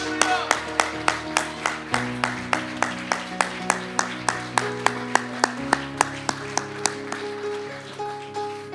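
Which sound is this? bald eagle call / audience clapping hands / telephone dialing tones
audience clapping hands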